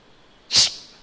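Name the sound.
imitated sneeze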